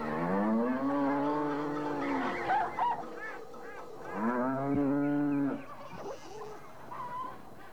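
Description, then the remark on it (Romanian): Two long, loud cattle moos dominate, one after another, with honking geese and other farmyard fowl calling around them, busy, as an old man's farmyard fills with birds and cattle. “Și îndată se umple ograda moșului pe lângă păsări și deșirez de vite.”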